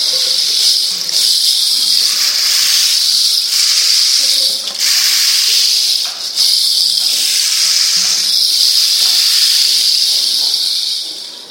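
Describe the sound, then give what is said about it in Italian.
Heavy rain pours down in a steady, dense hiss that stays loud and unbroken throughout, with slight swells and a few brief dips in intensity. “Tanta pioggia.”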